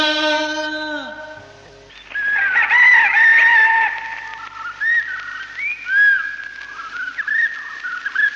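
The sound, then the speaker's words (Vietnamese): A rooster lets out one loud, drawn-out crow that drops in pitch at the end, followed by several seconds of busy whistling and chirping calls. “Tiểu thơ, tiểu thơ, gà đã rổ cánh năm”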